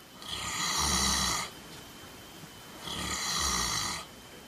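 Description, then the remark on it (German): A cow snoring: two long, rasping snores separated by a quiet pause, each with a deep rumble underneath and a hissy upper layer. Steady, no voices. “Nein, es war die Kuh.”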